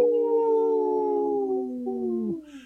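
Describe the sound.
A person howls like a wolf during a Native Roots Radio broadcast, one long, steady, slowly falling tone lasting over two seconds, fairly loud, ending with a brief drop in pitch.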